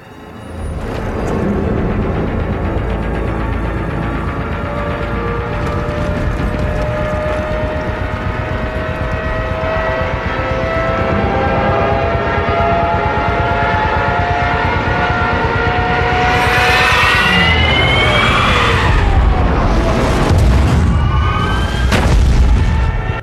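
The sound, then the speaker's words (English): Stuka dive bombers scream downward in a World War II siege of Dunkirk scene from the film Dunkirk, their rising and falling engine whine and siren tones sweeping in pitch over a loud, continuous rumble, with heavy booming blasts near the end. No one speaks. “Just the sound of those Stukas, how do you say the planes, just coming down.”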